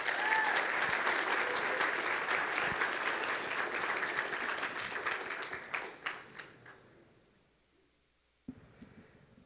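An audience breaks into sustained, dense applause welcoming a woman who comes up to give a testimony; it gradually thins into scattered claps and fades to silence, followed by a brief thump at the end.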